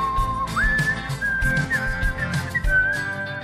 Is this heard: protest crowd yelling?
no